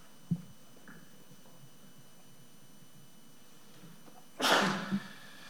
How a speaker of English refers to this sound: Seeing no discussion, and bless you there